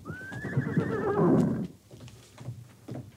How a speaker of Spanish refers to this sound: Un magnífico caballo salió de entre las ruinas de una casita abandonada. Tenemos prisa, Pardo. Veremos cómo respondes. Yo estoy viejo, pero tú eres un pura sangre.